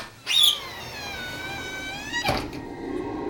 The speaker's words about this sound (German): Ich würde zuerst die Glastür aufmachen und mal reingucken. Vielleicht löst das irgendwas aus. Ich probier's.